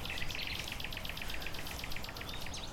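Nightingale and skylark song rings out in dense, rapid trills and chirps, a continuous overlapping chorus of birdsong over a low outdoor rumble.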